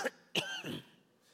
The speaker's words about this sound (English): how will someone judge me if I cough?